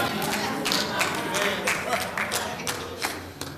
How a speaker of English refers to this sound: Some of y'all didn't clap.